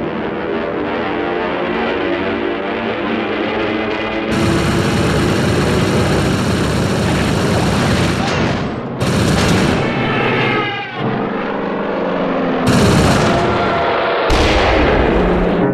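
Loud, continuous roar of aircraft engines with bursts of heavy gunfire and explosive blasts, shifting abruptly between dense noisy barrages and droning engine sound, depicting the Great Marianas Turkey Shoot air battle, with 900 planes from 15 aircraft carriers against the Japanese Air Force.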